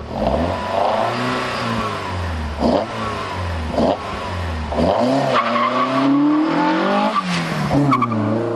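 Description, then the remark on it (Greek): A Peugeot 205 rally car engine revs hard, its pitch surging and dropping repeatedly over several seconds, with a few sharp bursts that sound like tires squealing. “Λοιπόν, πεζό 205 θέλω.”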